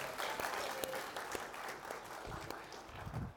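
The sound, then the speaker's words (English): A crowd claps steadily, a dense patter of many hands with scattered sharper individual claps standing out, sustained at a fairly even level throughout with no talking. “Okay, let's give him a clap.”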